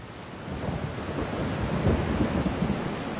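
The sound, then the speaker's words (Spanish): A big storm: a steady wash of heavy rain with a deep, continuous rumble of thunder rolling underneath, swelling slightly toward the middle. No voices, just the storm filling the space. “Esa es la tercera tormenta grande aquí, en los últimos 5 años.”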